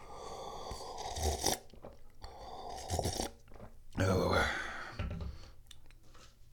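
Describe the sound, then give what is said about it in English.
A cat, Pippa, licks and chews at things inside an open cabinet in a series of wet, crunchy bursts that come in uneven clusters, fairly loud, with a person briefly speaking partway through. “Don't lick any of that stuff. I can hear you licking.”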